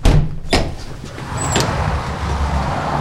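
A heavy airlock door bangs and thuds shut, two sharp metallic hits close together, followed by a steady low rumble and faint mechanical hiss in a long man-made tunnel leading into a cave.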